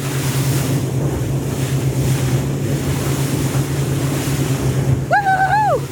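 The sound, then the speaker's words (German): A boat's engine drones steadily beneath loud rushing wind and splashing, churning water as it pounds through rough sea; a brief voice-like tone cuts in near the end. “Ganz schön wilde Fahrt hier, wir haben richtig Seegang, das Wasser spritzt, ich werde nachher definitiv eine andere Frisur haben.”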